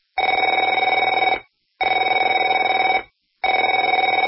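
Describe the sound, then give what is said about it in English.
A telephone rings three times in even bursts, each a loud, trilling electronic bell lasting just over a second with short silent gaps between, and no voices. “Afraid to answer it?”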